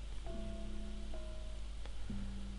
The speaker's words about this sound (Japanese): ある会社から帰宅途中、いきなり雨が降り始めた時でした。天気予報では降水確率 0% だったこともあり、傘を持っていなかった自分は雨に降られるまま、そのまま雨が弱いうちに家に帰ろうとしたんですが、急に雨足が強くなったんでコンビニの軒先に慌てて避難したんです。